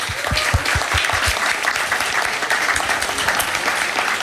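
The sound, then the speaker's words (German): An audience breaks into steady applause for the service team, a dense wash of many hands clapping at a fairly loud, even level for a few seconds, with no talking over it. “Das ist auch mal einen kleinen Applaus wert hier fürs Team.”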